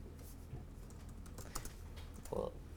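Quiet, irregular computer keyboard typing with scattered soft key clicks and a slightly louder burst near the end, over a low background hum, as code declaring a getString function for cs50.h is typed.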